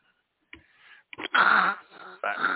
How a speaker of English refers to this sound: What are you doing? Are you breathing on the microphone?